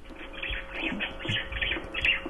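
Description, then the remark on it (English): Birds chirping somewhere in the background, a steady stream of faint overlapping tweets and calls with some low rumbling underneath, no one speaking. “Oh, I hear birds in the background.”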